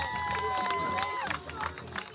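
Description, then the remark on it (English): A crowd in a large tent applauds and cheers loudly for two young IndyCar fans introduced as guests, a steady wash of clapping with whistles and shouts, one rising whistle tone gliding downward over the noise. “Big round of applause.”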